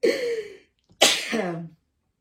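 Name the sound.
sneeze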